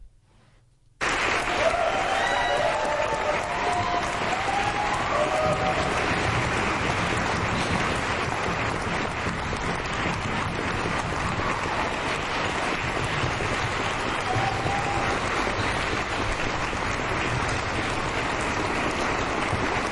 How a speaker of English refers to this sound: We still love you, essential workers. And we're going to start it off the clapping session right now.